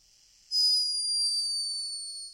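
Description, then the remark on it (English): A hummingbird snoring: one thin, very high-pitched whistling squeal that starts abruptly and holds steady for about two seconds, sinking slightly in pitch and fading a little, with no voices. “It's a hummingbird snoring.”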